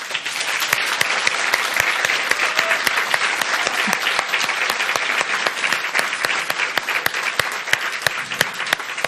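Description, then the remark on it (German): An audience at the Arboretum in Drez applauds steadily for about nine seconds, a dense, even patter of many hands clapping at a constant loudness with no voices on top. “Wir sind immer noch im Arboretum in Drez und wir kriegen bestimmt auch für diese Folge einen tollen Applaus vom Publikum.”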